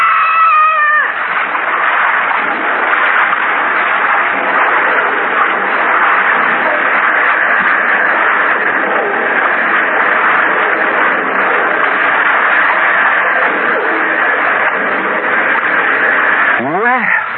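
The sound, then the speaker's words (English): A waterfall roars in a loud, steady, unbroken rush of noise throughout, with a brief wavering tonal cry at the very start and again at the end. “The roar of the falls is getting too loud.”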